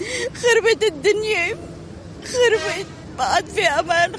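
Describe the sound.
A woman from the southern suburbs of Beirut, Lebanon, sitting on a sidewalk curb, cries in three shaky, wavering bursts of sobbing voice with brief pauses between, her pitch trembling and breaking, over a low background hum.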